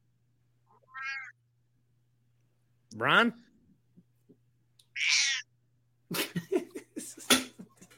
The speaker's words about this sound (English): Is it a cat? Someone's squeaking.